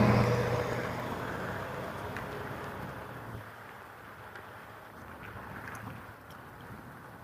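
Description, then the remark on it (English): A car engine hums at first, then fades into steady road and wind noise as the car turns at an intersection and moves off on a morning after snow has melted, with no talking. “Car going to make a turn here on this intersection.”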